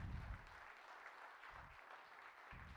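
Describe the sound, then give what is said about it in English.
An audience claps hands in praise of the Lord, a dense steady wash of many hands applauding together with no talking, for a few seconds. “Let's give the Lord a hand clap of praise if y'all don't mind.”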